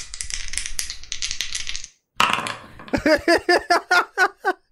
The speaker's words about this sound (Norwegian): Du må kaste terningen da. 1D4. Det var 2 terninger.